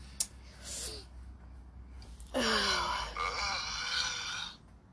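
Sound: yawn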